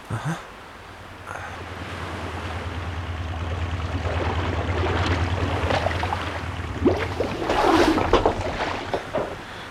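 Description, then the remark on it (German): A small boat moves steadily through water, pulling up alongside a cutter by its ladder, with a low rumbling drone beneath continuous swishing and lapping. Splashes grow louder near the end. No one speaks. “Fahr ganz dicht dran. Ja. Da ist eine Leiter, über die wir dann an Bord können.”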